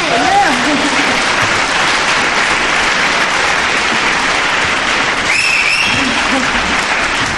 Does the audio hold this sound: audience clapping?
yes